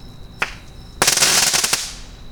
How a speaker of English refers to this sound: And when I say I should go down there and check, I do mean, of course, right after this next and last crackle bomb.